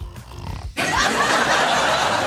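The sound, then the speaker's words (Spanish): A person imitates snoring: a few low, rumbling snorts give way to a loud, harsh, breathy rasp that holds steady for over a second. “Dos, que los escuchen roncar.”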